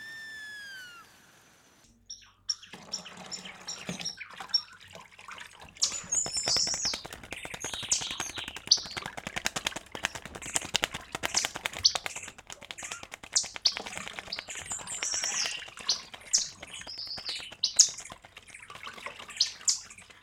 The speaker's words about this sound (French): À côté du ruisseau, il y a Colibri.